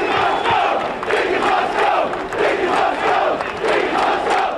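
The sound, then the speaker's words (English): A large crowd of thousands of off-duty police officers riots, storming through barricades, running on top of cars and charging the stairs of City Hall. They shout and roar continuously, many voices blending into a loud, surging din with rising and falling bursts of yelling and no individual speech standing out. “Thousands of cops stormed through the barricades and ran on top of cars as they charged the stairs of City Hall.”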